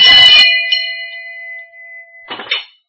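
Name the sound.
handheld bell ringing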